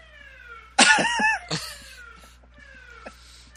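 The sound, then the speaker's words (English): A faint siren outside wails in long falling tones in the background, in a part of town with daily sirens, briefly masked by a loud cough-like burst near the start. “Is that siren coming from your end? Yes, it is.”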